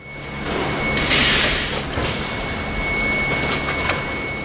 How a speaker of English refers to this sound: I'm standing in Royal Oak, Michigan, in a parts factory owned by a company called Formtech. You've probably never heard of it. But if you drive a car made in the U.S., there's a good chance one of Formtech's gears is in the transmission.